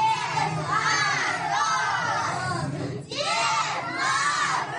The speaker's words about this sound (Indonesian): Kantor pos yang terletak di Central Children's Store di kawasan Lubyanka itu diresmikan sendiri oleh Father Frost yang datang ke toko itu dengan menaiki kereta kuda. Kedatangannya disambut meriah oleh anak-anak.